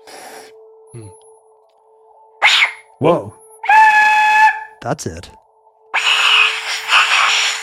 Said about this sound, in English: It's like a train whistle. Mm-hmm. Let me try this again. Different hand. Oh, it does sound kind of screamy. You're getting close to the hollow screamy sound. That's kind of horrifying. It's really awful.